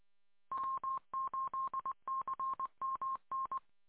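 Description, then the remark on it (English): A telephone number is dialed in quick touch-tone beeps to call the Philippines, around a dozen and a half short steady tones in small bursts with brief pauses between groups. No one speaks. “I gotta call the Philippines and see if I can get this phone number straightened out.”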